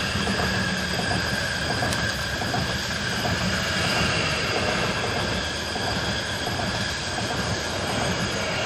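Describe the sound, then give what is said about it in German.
A train rumbles steadily past, a loud, continuous roar of wheels and engine with a high metallic whine running through it, no voices heard. “Es kommt aber ein Zug, gell, zum schnell stoppen.”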